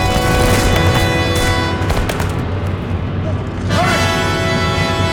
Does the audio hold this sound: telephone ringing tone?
no